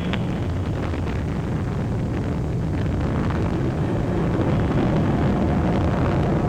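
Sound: rocket engine roar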